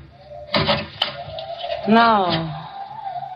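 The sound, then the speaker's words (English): A closet door shuts with a solid thump and a sharp latch click, followed by a drawn-out, wavering creak, all fairly loud, while the wind is high and the weather rough. “I pushed her body into the closet next to the body of Mr. Field. Closed the door.”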